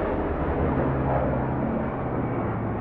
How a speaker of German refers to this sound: Während in Rajnis Dorf am Wahltag die Vögel am Himmel ihre Kreise ziehen, donnern über Risas Kopf die Helikopter. Der junge Moslem lebt in Srinagar, das ist die Sommerhauptstadt von Kaschmir.